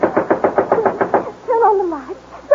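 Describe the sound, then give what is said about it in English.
A quick, even run of about ten light raps on a door, followed by a short wavering voice-like tone after the knocking stops. “Then suddenly there comes a light rapping at the door.”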